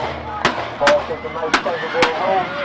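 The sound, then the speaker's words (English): Four sharp gunshots crack out at uneven intervals at a high school football playoff game between Pleasantville High School and Camden High School in New Jersey, each a loud, abrupt bang, while voices of the crowd murmur and shout in the background. “Gunshots rang out at a high school football game in New Jersey.”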